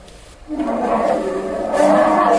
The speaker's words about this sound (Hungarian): Na, ez egy nagy barna. Medve. Medve! Így van.